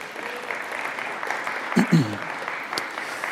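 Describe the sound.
An audience applauds with a steady, even patter of many hands clapping at moderate loudness for a few seconds, with a brief murmur of voices partway through.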